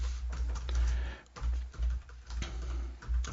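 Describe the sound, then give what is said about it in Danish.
Rapid, uneven clicking of keys on a computer keyboard, steady for a few seconds with a brief pause midway, over a low background hum, as text is typed into an encrypted note in Evernote. “Og vi skriver bare her.”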